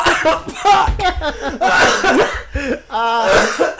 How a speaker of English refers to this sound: If … coughs, we're going to start a … cough counter.